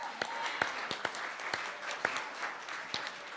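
A crowd applauds the volunteers who lobbied legislators to support bills, steadily, a dense wash of many hands clapping with a few sharper, louder claps standing out, holding at an even level without any voices.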